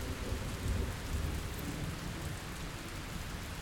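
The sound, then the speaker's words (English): Steady rain pours down while a low rumble of thunder rolls underneath, the thunder quietening down, the storm sound continuous and fairly subdued with no voices. “We can wait for the storm to pass a little bit further from here. So the thunder quietens down here.”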